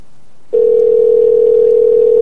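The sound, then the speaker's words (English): A telephone dial tone after a hang-up: a brief hush, then a single steady mid-pitched hum that comes on abruptly and holds loud and unbroken to the end, with no voices. “Oh, that bitch hung up. Call her back.”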